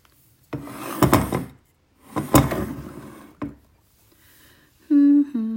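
A wooden door scrapes open in two rough, grinding pushes, followed by a soft knock and then a couple of short, high squeaky creaks at the end. No one speaks.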